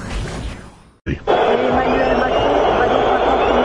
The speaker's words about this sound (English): They're booing him, folks. Look at him. In a turn of events that sharply reveals the mood of a nation on the precipice of change, French President Emmanuel Macron was met with an unmistakable wave of derision as he stepped forward to open the Rugby